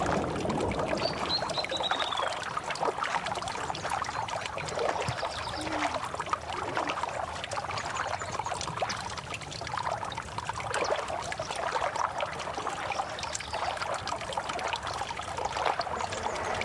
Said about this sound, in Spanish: Porque sigue naciendo el agua del suelo. Entonces nos chocamos con esa agüita que nace acá.